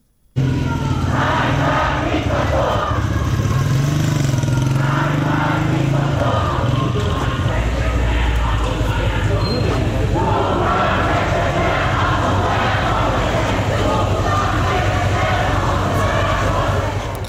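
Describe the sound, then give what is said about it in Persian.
Students of Shahid Beheshti University chant slogans such as "death to the dictator" in unison in protest at the killing of Mahsa Amini, loud and rhythmic, with voices rising and falling in repeated phrases over a constant rumble of background noise. “الان میتونیم صدای دانشجویان دانشگاه شهید بهشتی رو هم بشنویم.”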